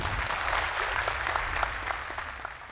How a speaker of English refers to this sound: So I close in extending an ovation to the heroic life of BM3, Travis Obendorf. A round of applause.